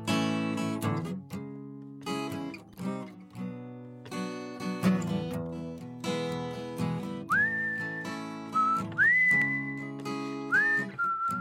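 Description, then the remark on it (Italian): A person whistles a short melodic phrase at the end of a song over a steady instrumental accompaniment, the clear, sustained whistled notes rising in near the end, fairly loud. “perché ci ha regalato anche il fischio finale che esatto, ci ha emozionato.”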